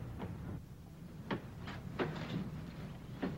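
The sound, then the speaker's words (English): A man kicks a door shut behind him, heard as a handful of dull wooden thuds and knocks spread over a few seconds, fairly quiet against a low background hum, with no voices. “Kicking the door behind him at Charlie.”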